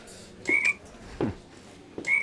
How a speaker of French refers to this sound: J'ai acheté ça quand on a ouvert. Au début, j'ai trouvé ça super marrant. Une petite grenouille qui fait un bruit à chaque fois qu'un client rentre dans le magasin.